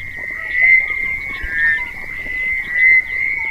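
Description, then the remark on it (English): A dense chorus of frogs croaking continuously near a river at Hobani, a steady high-pitched trill layered with overlapping calls, swelling and dipping in loudness throughout, with no voices present. “A choir of frogs erupts near a river at Hobani.”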